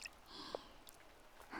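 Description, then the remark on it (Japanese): Quiet squishing of thick shampoo foam: a soft, wet crackling texture with a brief squelch near the middle and a louder, fuller burst of squishing at the end. No one speaks. “めっちゃタプタプの泡。ほら、シャンプーされてる気分だね。”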